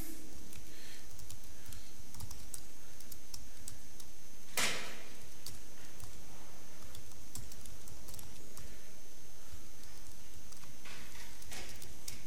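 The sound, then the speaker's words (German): Quiet, scattered keystrokes tap away on a computer keyboard at an uneven pace as someone types a multi-line command in a Bash shell, with one sharper, louder clack near the middle and a faint background hiss throughout. “Jetzt bin ich hier am Zeilenende, mache einfach weiter, weil jetzt die Gänsefüßchen nicht zu sind.”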